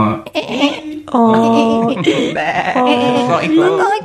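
Two long, wavering bleats sound loud, one after another with a short gap, the quavering cries filling most of the few seconds.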